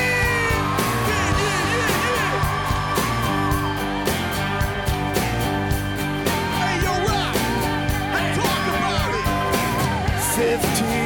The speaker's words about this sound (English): Say yeah. Say yeah. Say hell yeah. Now scream.